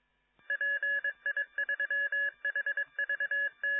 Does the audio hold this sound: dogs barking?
no